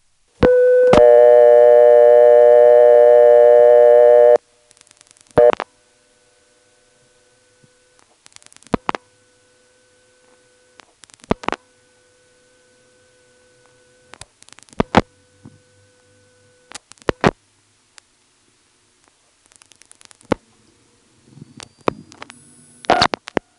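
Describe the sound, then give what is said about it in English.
A buzzy telephone ring on a call to a vacant number in Farmville, within a working connector group, sounds for about four seconds. It is quickly tripped and cut off, followed by a brief squeak as the ring stops, then scattered sharp clicks over faint steady tones, with no one talking. “The real ring starts and is very quickly tripped. There's sort of a little squeak noise when the ring stops.”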